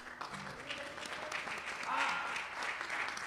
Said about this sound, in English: I just can't quit clapping. That was a beautiful call to worship.